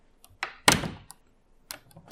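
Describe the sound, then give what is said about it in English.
A door thuds shut with a heavy, fading boom, followed by a few sharp metallic clicks of a lock being turned. No one speaks. “What are you locked the door for?”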